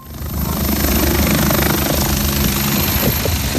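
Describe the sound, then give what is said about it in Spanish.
A helicopter's engine and rotors roar, a loud, steady throbbing drone that swells quickly and holds strong as the aircraft lifts off and climbs toward an active fire, with no talking. “nuestro piloto José cierra la puerta y el helicóptero empieza a subir para acercarse al foco activo”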